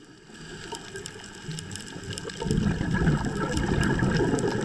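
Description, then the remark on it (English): Fish eating, pecking and chipping at coral underwater: a dense, steady crackle of tiny clicks and snaps over a low rushing murmur, growing louder partway through, with no voices. “That's all of the different fish eating the coral, pecking at the coral, chipping away at it.”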